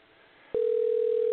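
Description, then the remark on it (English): A phone line ringing: after a quiet hiss, a steady mid-pitched telephone tone switches on abruptly and holds loud and unbroken to the end, with no voices. “Oh, it's still ringing.”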